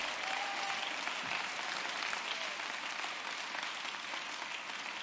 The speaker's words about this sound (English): Come on, let's give him a hand clap.